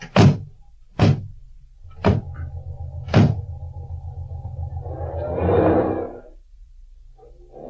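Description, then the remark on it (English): Four heavy car doors slam shut one after another as an engine idles underneath; the motor then revs up and the car pulls away, its sound swelling before settling. “Now, let's get in my car and we'll retrace the entire course to look for clues.”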